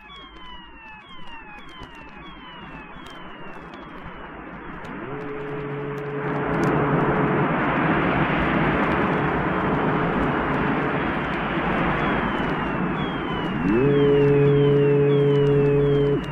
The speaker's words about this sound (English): In contrast, here from Brian Hodgson is a charming evocation of a seascape, with gulls, sea, and ships.